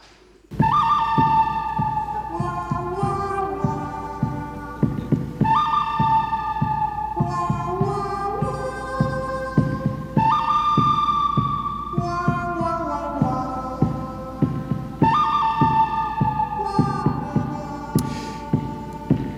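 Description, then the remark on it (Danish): Dramatic instrumental music, played live at Sankt Knuds Gymnasium in Odense as candidate words for word of the year meet in duels, plays on its own, driven by a steady, throbbing pulse beneath a bold melodic phrase that swoops downward and repeats every few seconds, loud and insistent throughout. “Som det helt subtilt fremgår af musikken her bag mig, så skal de enkelte ord nu møde hinanden parvis i nogle drabelige dueller.”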